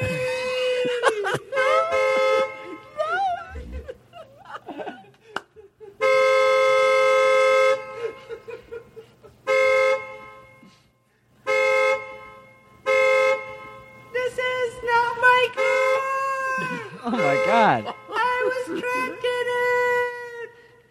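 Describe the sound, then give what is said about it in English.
A car horn honks over and over in long, loud blasts with short gaps between them, interspersed with quicker toots and some wavering, voice-like sounds. “He keeps beeping his horn like that.”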